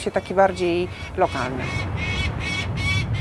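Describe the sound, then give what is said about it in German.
A falcon circling a palace tower in Warsaw screeches in a rapid series of sharp, shrill cries over a steady outdoor rumble, with a few lower, drawn-out calls near the start; it nests above the clock at the top of the tower and has young. “Um den Turm kreist ein Falke und schreit genervt.”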